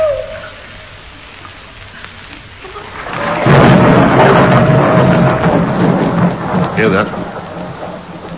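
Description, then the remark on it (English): Steady rain hisses before a deep roll of thunder swells in around three seconds, rumbling loudly and broadly through the rest of the storm at Stonehenge, with no voices. “Hoot and a thunderstorm. Two very good omens.”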